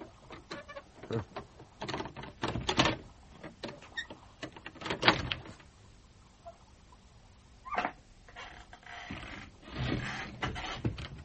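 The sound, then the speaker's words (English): A locked door, bolted on the outside, is tried again and again: irregular bursts of rattling and clunking as the handle and frame are shaken, with brief quiet gaps between attempts and no voices. “Oh, please, son, if you're in there, open the door. It's locked.”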